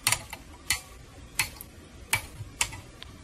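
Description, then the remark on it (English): A series of sharp, bright snips as the leads of five freshly soldered resistors are clipped off, five crisp cuts spaced roughly evenly over a few seconds with faint clicks between, no talking. “We'll clip off all the leads.”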